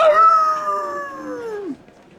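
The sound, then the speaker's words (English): A person mimics a wolf howl: a single sustained tone that starts loud and glides slowly downward for under two seconds before dropping off, followed by quiet. “And I'm anxious to restore my status as a lone wolf.”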